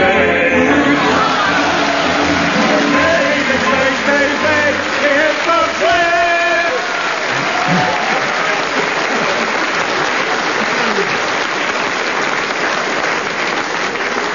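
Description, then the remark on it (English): An audience applauds loudly and steadily for the full length, a dense wash of clapping, with a few voices or cheers rising briefly through it near the middle. “They were nowhere near it, but since they got exactly the same amount of applause from the audience, I suppose I better get them the same amount of marks, minus two.”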